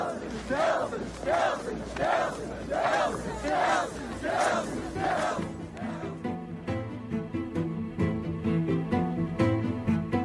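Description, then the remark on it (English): A large crowd chants "Trump" in unison, six loud rhythmic shouts about a beat apart, then the chanting gives way to pulsing music with a steady beat. “And they were, it was weird in this video, like there was footage of the crowd going Trump, Trump, Trump, and it is exactly like the Greg.”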